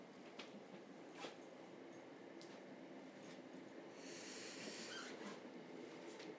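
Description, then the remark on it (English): Steady rumble inside an almost deserted train carriage late at night, with wheel clatter and thin, high metallic squeals from the rails as it slows to arrive at Waterloo East station in London; the noise swells slightly near the end. No one speaks. “quite late at night and I'm on a train, almost deserted, about to arrive at Waterloo East, where we're going to try and find a train to Richmond.”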